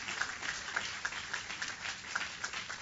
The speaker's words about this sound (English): Give the Lord a super clap offering. Hallelujah.